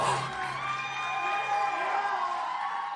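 A thin, high-pitched scream held for about three seconds at low volume, blending with shrill crowd-like shouting and cheering, with no clear speech.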